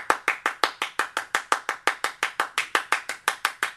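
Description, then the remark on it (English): Steady hand clapping used as percussion, about five crisp, sharp claps per second in an even rhythm, moderately loud with no voices. “They used obviously the clap, you know?”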